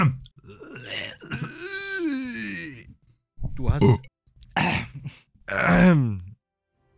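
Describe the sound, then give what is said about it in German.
A voice clears its throat and lets out several rough, croaky coughs and groaning sounds in short bursts, with a few spoken words mixed in between. “Aber auch hier und heute soll es etwas Futter für eure Ohren geben, denn auch in den letzten 25 Folgen haben sich in dieser hochwertigen Deluxe-Produktion wieder so einige Huster und Krächzer.”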